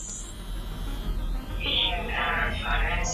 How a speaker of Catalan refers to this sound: Aquesta és la meva veu? Ho heu sentit, amics? Interferències. Absolutament flipant.